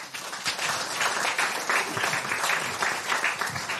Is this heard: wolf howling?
no